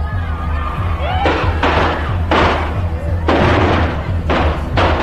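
Chinese firecrackers pop in several sharp, crackling bursts like gunshots at a presidential campaign appearance, coming in irregular volleys over a steady low rumble of crowd noise.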